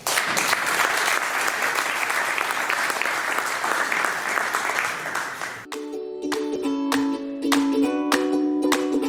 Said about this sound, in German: Sie heißen ihn jetzt bitte mit einem riesen Applaus willkommen.